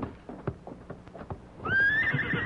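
Hooves clop in an uneven rhythm for a moment as riders mount their horses, then a horse lets out a loud, high whinny that rises and wavers over continued stamping. No one speaks.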